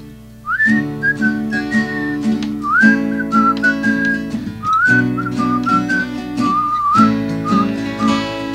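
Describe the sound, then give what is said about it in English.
A person whistles a bright, wavering melody in four phrases over a steady instrumental accompaniment, the whistle sitting clearly on top, fairly loud throughout. “you tried some yodeling here a couple months ago, so if you can yodel, I'm going to try to whistle.”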